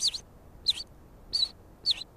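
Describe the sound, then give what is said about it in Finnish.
Four short, bright white wagtail call notes, given as the bird walks about on the ground, repeat at a steady, spaced rhythm, each a quick high chirp standing clearly above a quiet outdoor background with no talking. “Semmoisia niin kuin kutsuäänijutusteluja, jota se nyt tekee, kun se tepastelee tuossa maassa.”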